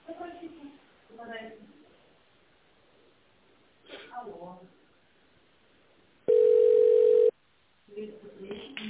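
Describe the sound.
A steady, loud telephone beep tone sounds once for about a second on the automated phone menu of the company Tolpro Ural, cutting in after a recorded voice speaking, followed by a brief silence before more talking resumes.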